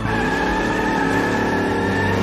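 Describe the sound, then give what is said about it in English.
A Dodge Charger's engine roars loudly and steadily as its tires squeal and skid while it speeds away, a sustained high whine over the rumbling motor for a couple of seconds. “Dodge Charger escapes.”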